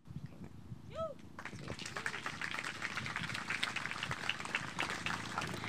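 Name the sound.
audience clapping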